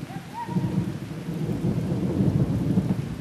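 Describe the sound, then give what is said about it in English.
Heavy monsoon rain with fat drops pours steadily while deep thunder rumbles low and continuous underneath, a dense storm sound with no voices. “The monsoon washes away the monotony of a Blur's Day with thunder, lightning, and fat drops of rain, and the smell of petrichor, that first rain hitting the dry, dusty earth.”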